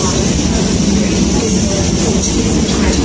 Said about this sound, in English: This train is formed of 4 coaches. The train now approaching platform 3 is the 14:29 Southern service to London Victoria.